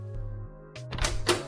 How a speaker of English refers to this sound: A few minutes later, he hears knocking. I'm coming.